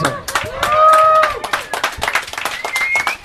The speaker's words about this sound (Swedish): Det är också en konstig applåd. Ja. Mycket. Det är det som är röda tråden ikväll. Konstiga applåder.